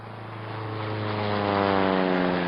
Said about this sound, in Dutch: Terwijl heer Bommel door dit feestmaal over zijn krachten raakte, was het watervliegtuig van de internationale inmaakindustrie naast het vliegveld van Onkstok neergestreken.